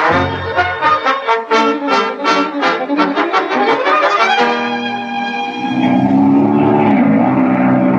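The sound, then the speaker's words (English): A small airplane engine drones loudly and steadily, starting with a rapid pulsing throb before settling into a continuous roar whose pitch dips and rises as the plane does a barrel roll. “Say, have you ever been up in a plane?”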